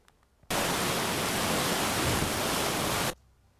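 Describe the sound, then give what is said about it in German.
A loud, steady roar of the rushing floodwater of the Jordan River fills about two and a half seconds, cutting in and out abruptly, with near silence on either side and no voices. “Genau, also etwa so sieht der Jordan aus, wenn er viel Wasser hat.”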